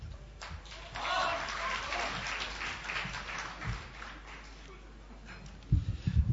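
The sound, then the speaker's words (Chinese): Audience applause at a xiangsheng (Chinese crosstalk) performance of 'Dui Zuo Shu Lai Bao', a dense steady patter of many hands that swells early and then tapers, with a few louder low thumps near the end. “谢谢大伙儿的掌声。”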